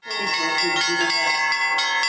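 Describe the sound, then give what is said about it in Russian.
Bells in the bell tower of a Resurrection church, rung by Russian, Belarusian and Ukrainian bell ringers during a festival, ring in a lively peal, several bells struck in quick succession so their bright, overlapping tones blend into a loud, continuous shimmering sound. “Звоны на колокольне Воскресенского храма исполняли российские, белорусские и украинские звонари.”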